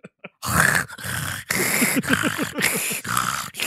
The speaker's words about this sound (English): That's him breathing in a room.